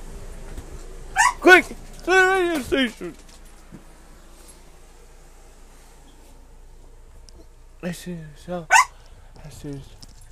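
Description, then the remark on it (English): A dog barks in the back during a recording, in short, high-pitched yipping bursts: a loud cluster early on, a long quiet stretch, then another group of sharp barks near the end. “Alright guys, come here guys, excuse the barking in the back.”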